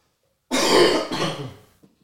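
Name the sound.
coughing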